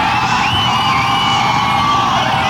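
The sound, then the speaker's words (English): A large live crowd at a live radio broadcast at Hammerheads, picked up by room microphones, screams and cheers continuously, a dense, loud wall of high-pitched voices with whoops and yells blending together without a break. “And the louder you scream, the more it's gonna get picked up on the radio.”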